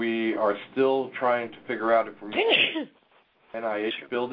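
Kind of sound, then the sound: human body sound, sneeze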